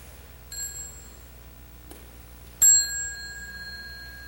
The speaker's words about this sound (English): So when the children hear the little bell, they will stand up and bow and go out and play outside.